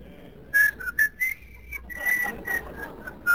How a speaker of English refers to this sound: And that's why sometimes I'll start singing. I'll go, and I'll whistle along. Notice the talent God has given me.